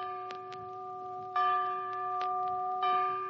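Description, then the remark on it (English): A bell rings three times at an even, unhurried pace, each strike leaving a sustained, humming tone, marking a three-bell rating for the film Excuse My Dust. No voices accompany it, with only faint clicks in the background. “A three-bell picture in which Red Skelton has lots of elbow room.”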